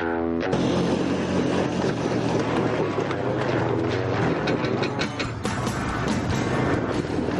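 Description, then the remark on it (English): A small engine roars loudly and steadily throughout, revving hard under strain with a rough, buzzing drone, as a quad bike labours to pull a heavy van that will not start, while four people rock it; the van does not budge. No voices are heard. “Combined efforts of the quad bike, me, and four rockers just can't get that van to budge.”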